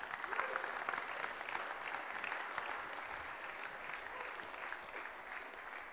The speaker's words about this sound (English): Would you just give those guys a round of applause?